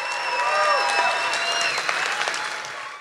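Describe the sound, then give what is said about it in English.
A studio audience breaks into a sustained round of applause as the show goes to a break, dense steady clapping with a few whistles cutting through, holding strong for about three seconds before tapering slightly. “And let's get a round of applause as we go to break for people at home.”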